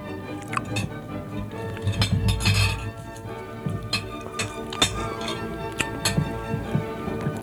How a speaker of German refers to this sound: Gläser klingen. Weiße Jacketts und schöne Männer. 120 Staats- und Regierungschefs bekämpfen die Armut.